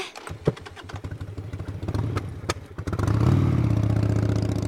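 A motorcycle being ridden by a monkey sputters and pops unevenly at first, then revs up into a steady, louder roar as the bike pulls away, with no talking.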